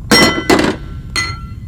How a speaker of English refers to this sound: The slamming of the tray felt wrong.